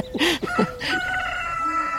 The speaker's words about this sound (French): Il y a le coq. Il est beau en plus. Oh, il a mal une patte, par contre.